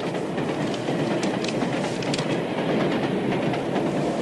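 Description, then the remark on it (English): A train rolls steadily along the rails, its wheels clattering in a continuous clickety-clack over a dense, rumbling roar, with no voices. “So they catch the train, they jump on, and here they are.”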